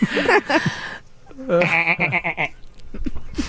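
A sheep bleats twice, a short wavering call followed by a longer, shaky 'baa' with a trembling quaver, then faint scuffling sounds.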